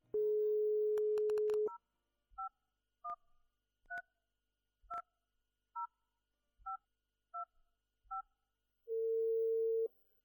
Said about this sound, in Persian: گوشک تلفن را برداشت و شماره را گرفت.